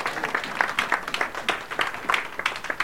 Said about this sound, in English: Come on, give the Lord a hand clap today.